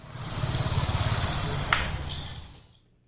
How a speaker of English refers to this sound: every time he recorded something anywhere on this trip, a motorcycle was in that recording. There it was again. I think I heard one. Yep.